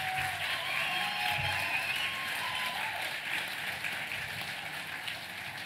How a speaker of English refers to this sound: And if Minus 18 can please stand up, they're at the back of the room right now. Everybody on your feet. Everybody, please give these people a round of applause.